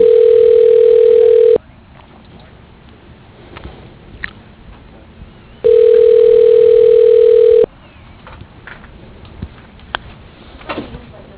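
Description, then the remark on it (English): A telephone ringback tone over a narrow phone line while a call to Zoned Properties is being transferred: two long, steady, mid-pitched rings, each about two seconds, separated by a quiet pause with faint line noise and small clicks. “Your call is being transferred. Please hold.”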